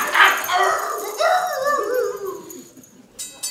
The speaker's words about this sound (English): Get your damn dog off me! He's biting my hand yeah, off!